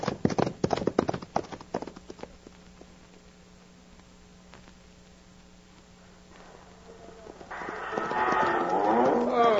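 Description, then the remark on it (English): Loud, rapid hoofbeats of galloping ponies pound along a dusty trail for a couple of seconds, then thin out and fade, and a long, bellowing animal call rises near the end. “Now, turn those ponies and pound that dust.”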